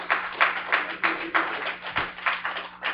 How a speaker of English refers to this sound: Thank you, God. That applause is for God, right? We've got to make sure that's got to be what happens here. We give God the glory.